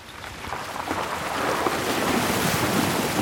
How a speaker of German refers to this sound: Der Geländewagen von Chris Hayward kämpft sich durch das Wasser des Spring Creek, einem Nebenfluss des Condamine River.